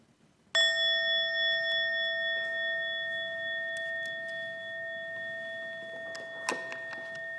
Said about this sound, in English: Okay, let's just sit in the silence for a minute and just continue to let what we've heard kind of work in us. And at the end of a minute, I'll ring the bell,